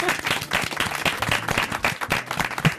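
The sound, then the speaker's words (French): An audience claps and applauds steadily for the musicians once again, a dense wash of many hands with no pauses, while a few voices murmur underneath. “On peut les applaudir à nouveau peut-être.”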